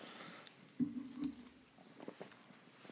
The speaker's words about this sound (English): Hold on. I'm gonna wet my whistle a little bit with some water.